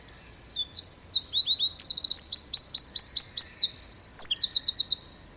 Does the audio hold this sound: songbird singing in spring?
yes